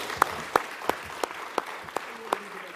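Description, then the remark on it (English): Audience applause for a panel of speakers, heard as a steady run of sharp, evenly spaced claps standing out over a soft, continuous patter of lighter clapping, moderately loud. “Let's give our panelists a round of applause.”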